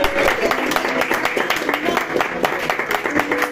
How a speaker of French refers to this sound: On applaudit un peu.